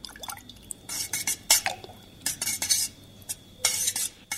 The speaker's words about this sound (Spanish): El tercer paso es mezclar el agua con una cuchara limpia.